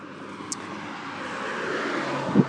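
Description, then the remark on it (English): Steady road traffic noise on a road with quite a lot of traffic, a broad continuous rumble and hiss that swells slightly as vehicles pass, with a brief high click early on and a low thump near the end. No one speaks. “Okay, so I'm now on a road where there's quite a lot of traffic, so I think I will stop this and talk to you again.”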